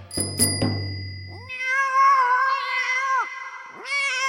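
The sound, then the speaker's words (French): Pacha, the sultan's cat, yowls loudly and insistently in a palace in a long, wavering wail, then starts another cry, after a brief burst of bright bell-like clicks at the start. No one speaks. “Dans tout le palais, on entend crier le chat Pacha.”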